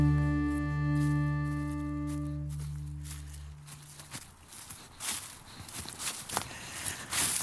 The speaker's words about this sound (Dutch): Nou, misschien verklapt dit geluid al wel een beetje waar we zijn vandaag. Dat is niet in de stad, maar dat is in een bos. Ik loop hier door de bladeren. Het lijkt wel een beetje herfst.